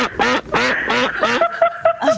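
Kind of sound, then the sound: sound effect, duck quacking sound effect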